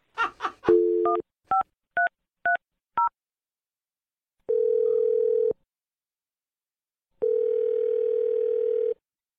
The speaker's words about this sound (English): All right, here we go. I'm going to dial the number, and you can make your awkward Tuesday phone call.